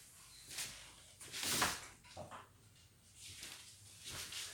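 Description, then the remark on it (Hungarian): A door is opened with a few soft clunks and a brief scraping rush of noise, fairly quiet, with no talking. “Bocsánat, csak az ajtót kinyitottam.”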